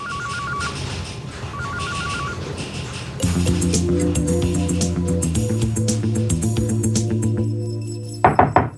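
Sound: knocking on a door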